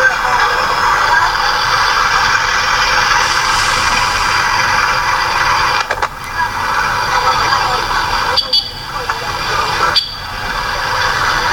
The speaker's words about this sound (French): Une capitale ne serait pas une capitale sans une forte empreinte auditive, et Nairobi ne fait pas exception à la règle. Nairobi, c'est une circulation intense de vendeurs de rue qui peuvent nous emmener dans des palabres sans fin.